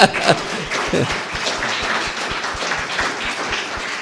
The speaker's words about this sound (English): Get up and take a bow. We'll clap for you too.